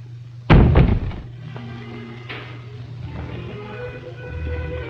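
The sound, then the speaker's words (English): A door shuts with a loud slam that rings out briefly as a guard leaves, followed by a quieter knock or thud and a low steady hum of room noise. “Shaking his head, the guard goes to the door and leaves.”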